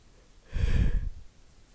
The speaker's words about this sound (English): Sorry, I'll try to stop yawning.